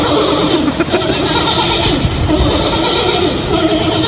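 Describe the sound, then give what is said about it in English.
Giant pandas vocalizing while mating, the male behind the female: loud, continuous strained bleats and whinny-like calls with a sputtering, rasping quality, sustained over several seconds without pause. “So I actually had to go and find other videos of pandas fucking to compare the noises they were making.”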